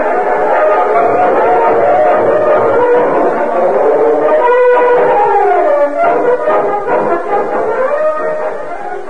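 A loud, sustained train whistle sounds steadily for several seconds, its pitch wavering and bending downward, then trails off with a slight fade near the end.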